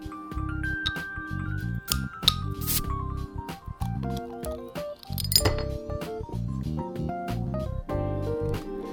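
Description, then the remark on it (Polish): A beer bottle filled almost to the cap is opened over steady background music: a few sharp glassy clinks, then a brief bright hiss of release about halfway through, with little foaming and no talking. “No dobra, starczy gadania, otwierajmy to cudeńko.”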